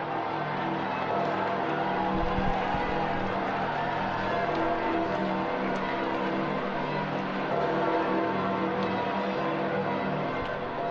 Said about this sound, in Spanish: vamos a escuchar las campanas de San Pedro repicando.